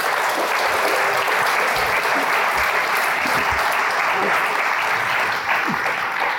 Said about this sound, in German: Bitte Applaus.